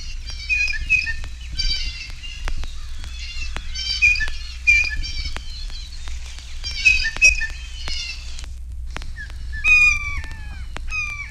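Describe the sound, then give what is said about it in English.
Blue jay calls: bursts of harsh, raspy, high-pitched notes repeat in clusters, mixed with sharp clicks and a few clear whistled tones near the end, over a steady low rumble. “The notes of the blue jay vary from raucous screams to soft conversational chatter.”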